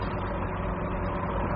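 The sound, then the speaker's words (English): The engine of an old bus, driven on empty roads, runs at a steady idle-like rumble, deep and continuous with a low throbbing texture, moderately loud and without any voices. “The old bus is running well.”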